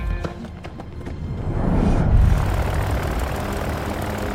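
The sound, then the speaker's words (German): A propeller plane engine in a hangar sputters to life with a few rhythmic coughs, then builds into a steady, loud rumbling drone as the plane begins to roll out toward the runway. “In der Halle springt der Motor des Flugzeugs an.”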